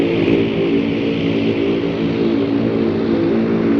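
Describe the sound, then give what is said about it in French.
A small passenger plane of about fifty seats, flying in from Kabul over the Hindu Kush, drones loudly and steadily as it touches down at a tiny Afghan airport with a simple fenced airstrip, a dense mechanical roar layered with a constant low harmonic hum, no voices. “Au bout de 30 minutes de survol des hautes montagnes enneigées de l'Hindou Kush, un petit avion d'une cinquantaine de sièges parti de Kaboul touche le sol d'un minuscule aéroport.”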